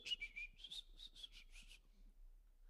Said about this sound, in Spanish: Hasta silbando. ¿Cuántos silban cuando hacen oficio, hermano? O andan medio bravos. ¿Cómo? Yo prefiero silbar mejor.